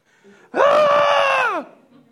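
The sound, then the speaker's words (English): A single sustained human scream, loud, rising sharply then holding a steady pitch for about a second before sliding down and cutting off, like a thrill-ride shriek. “You scream a lot.”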